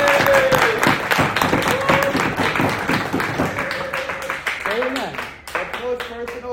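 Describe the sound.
An audience claps loudly in a dense, steady burst that gradually thins out, with a man's voice starting to speak over the tail end of the applause.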